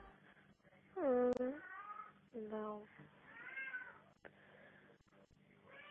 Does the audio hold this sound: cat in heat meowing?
yes